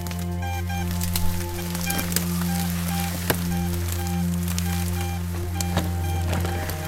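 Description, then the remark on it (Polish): Steady rain patters outdoors during a field survey measuring the route of an old tunnel, with scattered sharper drops tapping on a surface, all over a constant low droning hum and no voices. “Nim deszcz nas zmoczy na amen, jeszcze spróbujmy wykonać jeden pomiar.”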